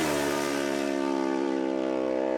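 A loud, high-revving racing motorcycle ridden by Mike Brown during a road race blares continuously, its rich buzzing tone holding steady with only a slight drop in pitch as it tears past.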